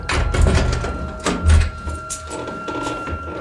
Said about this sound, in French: Le serrurier à l'œuvre, la porte s'ouvre.